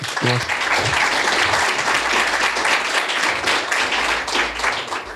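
Steady audience applause fills the whole stretch, a dense, even wash of many hands clapping at constant loudness, with a brief murmur of voice at the very start.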